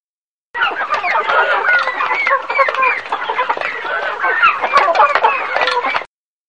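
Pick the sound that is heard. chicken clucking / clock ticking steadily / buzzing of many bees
chicken clucking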